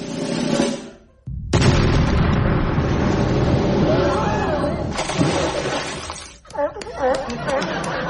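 A loud cannon boom bursts out after a brief silence as a cannon at the Heated Rollers Big Top fires a person, roaring on for several seconds, then a second jolt and a clattering crash of scattered, shattering debris.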